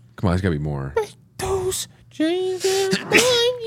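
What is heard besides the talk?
sneeze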